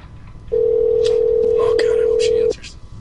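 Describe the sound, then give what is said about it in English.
A steady electronic phone tone hums for about two seconds as an outgoing call rings through on the line, with faint voices murmuring underneath before it cuts off. “So we're going to call her.”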